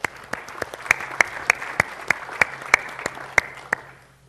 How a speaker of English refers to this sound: So let's have a round of applause for these apps.